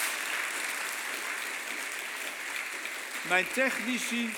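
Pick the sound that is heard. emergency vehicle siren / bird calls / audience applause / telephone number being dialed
audience applause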